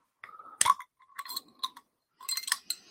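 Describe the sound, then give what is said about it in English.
A glass bottle of grapefruit Hefeweizen mix is opened with a sharp clink, then liquid pours out in several short gurgling bursts separated by brief pauses. No one speaks. “Well, we're going to pour it.”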